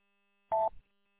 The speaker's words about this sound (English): Well, I'm a beep when I key up, and I don't like it. Unfortunately, I haven't found a way to turn that off in this app where it's possible.